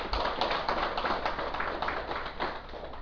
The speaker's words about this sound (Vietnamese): Xin quý vị vỗ cho tràng pháo tay.